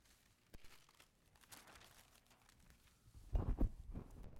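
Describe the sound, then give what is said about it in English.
A blank sheet of paper is handled, with soft scattered crinkles that build to a louder, rustling crumple near the end, and no one speaking. “Blank sheet of paper, okay.”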